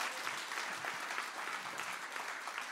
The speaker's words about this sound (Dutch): Zullen we een applaus geven, want het is supermooi.